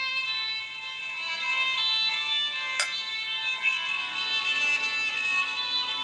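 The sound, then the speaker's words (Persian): Arash's phone suddenly rings with a steady electronic ringtone, layered high-pitched tones sounding continuously for several seconds, clear, with no voices. “تصمیم گرفتم درباره بچه باش حرف بزنم که یه دفعه تلفن آرش زنگ خورد.”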